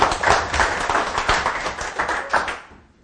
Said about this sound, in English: But why don't we just give him a warm, friendly, a welcome. Let's clap.